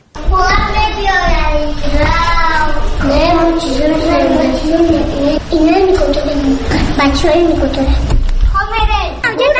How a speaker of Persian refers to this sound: من در کودکستان شماره 34 مرکز شهری دوشنبه قرار دارم. بچه ها مشغول بازی هستند.